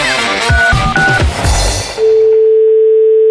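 A couple of seconds of busy, clattering noise with short high beeps, then a steady, clear telephone ringback tone hums alone on the line until the end, during a call to a hair salon.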